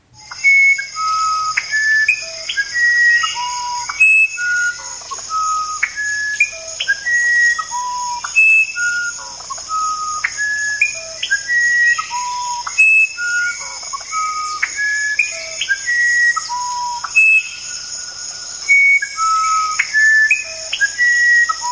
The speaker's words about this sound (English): Here comes a parrot. Watch. Okay, musician wren.